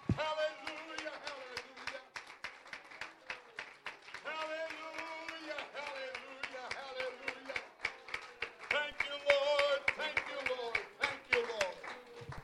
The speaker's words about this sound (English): Oh, clap your hands to the Lord right now.